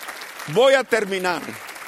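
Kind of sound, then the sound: crowd, applause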